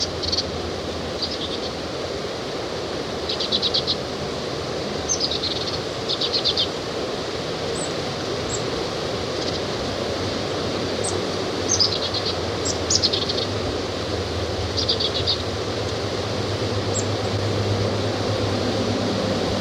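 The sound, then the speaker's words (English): At least four birds high up in alder trees over a creek give high, thin chirps in short scattered bursts, some quick trills, over a steady low rushing hiss that fills the background throughout. No one speaks. “They're high up in the alder trees over the creek.”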